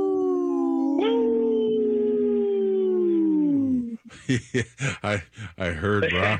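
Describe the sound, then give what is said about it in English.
A person on Native Roots Radio lets out a long, loud wolf-like howl for a show segment supported by Howling for Wolves. The howl holds steady for a few seconds and then slides downward, followed by someone talking. “This portion of the show is supported by Howling for Wolves, protecting wolves for future generations. Howl! Howl!”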